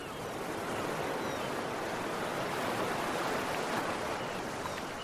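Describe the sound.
A long, slow breathy exhale through an open mouth, held for several seconds as the hands come down, a steady rushing hiss made to imitate the sound of ocean waves, with no talking.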